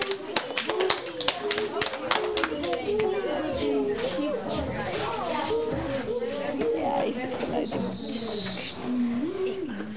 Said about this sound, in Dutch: Applaus!